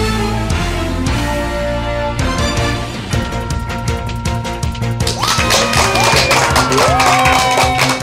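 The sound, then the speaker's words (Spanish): Crowd applause and cheering mixed with loud, upbeat music, the clapping thickening into a dense roar over the last few seconds with a few rising whistles. “Y con esa energía positiva y esos aplausos damos inicio a este episodio número 163 del programa Te Invito a un Café en su nueva temporada.”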